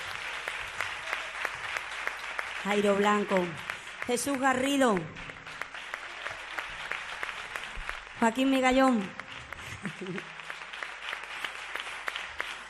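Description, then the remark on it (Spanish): Steady audience applause for the musicians runs throughout, a dense crackle of many hands clapping, while a man's voice announces their names over it in short bursts. “Y Alba Ortiz, un aplauso para todos ellos.”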